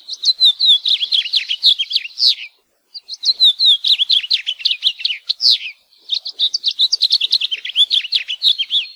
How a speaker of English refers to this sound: House finch song has been described as a sweet warble and can be heard throughout the year in Hawaii.